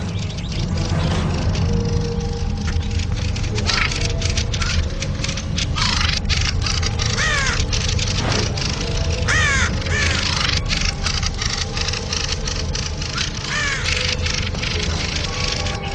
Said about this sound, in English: One of the birds squawks angrily and threatens the intruder. The threat is then translated into action. They attack the intruder en masse.